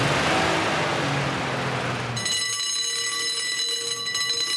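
A 1943 fire engine, a fire-group vehicle with portable pump trailer and the oldest operational fire engine in Schleswig-Holstein, kept by the Förderverein Feuertechnisches Denkmal Dollerup, rumbles and roars loudly for about two seconds, then gives way to a steady, shrill, multi-toned ringing that holds to the end, with no voices.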